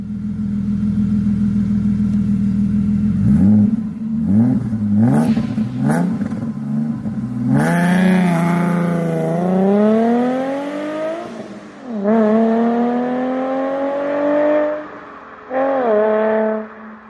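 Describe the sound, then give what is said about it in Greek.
The twin-turbo engine of an Alfa Romeo GTV Twin Callaway Turbo sports car, one of 17 built, with about 230 horsepower, idles steadily, then blips the throttle in quick bursts before a long, loud rev climbs and falls, followed by two shorter revs. No talking. “Είχα την Αλφα Ρωμαίο GTV. Πρόσχε. Στην Αμερική. GTV Twin Callaway Turbo.”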